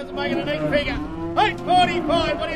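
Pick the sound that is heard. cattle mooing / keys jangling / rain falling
cattle mooing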